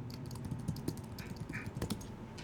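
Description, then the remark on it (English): Rapid, irregular clicking of keys on a computer keyboard as someone searches for a word, steady for a couple of seconds, with a faint low hum underneath and no voices. “You have a keyboard.”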